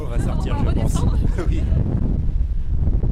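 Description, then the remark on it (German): A wind tunnel fan, in a tunnel used to test small models of buildings, blows cold air with a loud, steady, low-heavy roar that fills the whole stretch, with a voice faintly audible over it near the beginning. “Hier hält man es nicht lange aus, es wird schnell kalt.”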